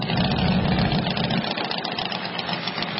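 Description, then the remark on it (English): Several motorcycle engines idle together at the annual Sturgis Motorcycle Rally in rural South Dakota, a steady, loud rumble with a deep throb that eases a little partway through, without any voices. “The annual Sturgis Motorcycle Rally is kicking off today despite the pandemic in rural South Dakota.”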